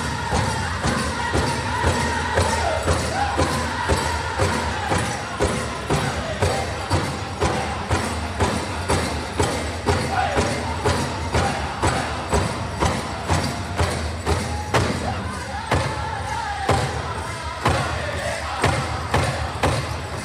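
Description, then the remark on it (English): A powwow crow hop song: a heavy drum pounds out steady, insistent beats for the whole stretch while a group of voices sings a high, wavering chant above it. “The second song sounds like a crow hop.”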